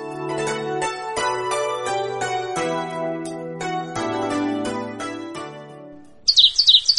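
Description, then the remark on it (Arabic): Gentle tonal music plays, then a sparrow breaks in near the end with a quick burst of loud, shrill chirps that stand out clearly. “اللعنة عليك من عصفور قبيح الصوت، اغرب عن وجهي.”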